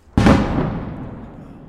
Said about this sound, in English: Every day, hundreds of shells are lobbed into Kherson and the surrounding areas from across the Dnieper River by the Russian forces who retreated from the city last November. Explosions shake the city and its outskirts every few minutes.